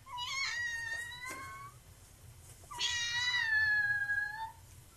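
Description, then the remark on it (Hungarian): Two drawn-out meows, clear, the second longer and rising then falling, with a short pause between them and no talking. “Itt a kutyák nyávognak.”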